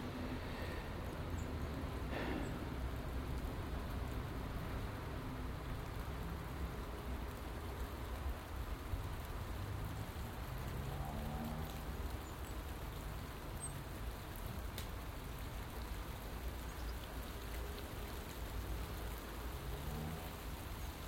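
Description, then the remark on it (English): Steady light rain patters continuously, a soft even hiss of drops on surfaces with a faint low rumble beneath, no voices. “Light rain at the moment.”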